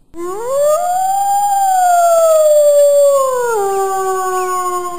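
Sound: wolf howling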